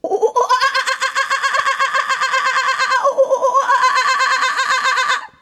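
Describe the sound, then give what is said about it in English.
A person imitates a kookaburra's laughing call, a loud, continuous stream of rapid, rising and cackling hoots lasting several seconds, with no other talk over it. “Let me see if I can do a kookaburra.”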